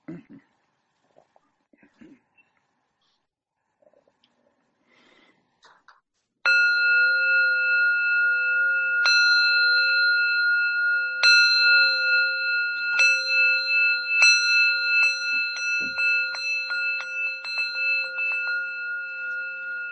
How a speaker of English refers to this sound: Let's move into service now with the Metta Sutta. We'll begin with bells.